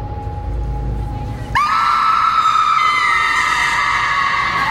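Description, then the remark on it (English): After a low background murmur, a woman's shrill scream breaks out abruptly on a sidewalk and holds loud and steady for several seconds, with faint crowd noise underneath. “… is screaming, and someone is pulling at me.”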